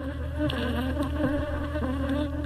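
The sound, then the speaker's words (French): A dense, steady drone of many honeybee swarms buzzing together at a beekeeper's hives in the village of Bitom, Cameroon, loud, with layered overlapping hums and small flickers of individual insects passing by, no voices. “C'est le bruit qui vous accueille lorsque vous vous approchez des essaims d'abeilles”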